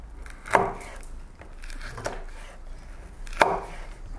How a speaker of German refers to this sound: So, auf jeden Fall, wir schneiden hier nochmal genüsslich weiter und wir melden uns dann gleich